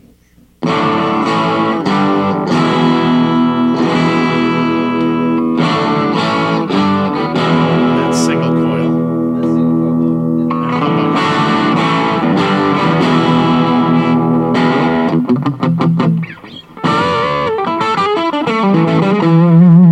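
An electric guitar played on its bridge pickup, bright and twangy, strumming full chords and short riffs at a steady, loud level, with a brief dip near the end before it picks back up.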